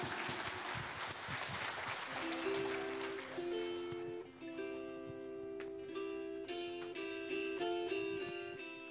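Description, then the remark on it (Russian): A crowd claps loudly for about three seconds, a dense burst of applause as the children's dance ensemble «Feyerverk» is invited onto the stage, fading as bright instrumental music with a steady melody begins and carries on to the end. “Мы хотим пригласить на эту сцену образцовый детский ансамбль танцевальный «Фейерверк» под ваши аплодисменты, друзья!”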